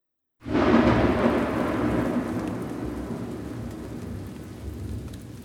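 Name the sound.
heavy rain pouring outside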